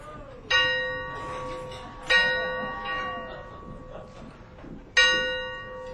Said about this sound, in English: Church bells ringing? Man, you don't hear no church bells ringing 12 o'clock in the daytime.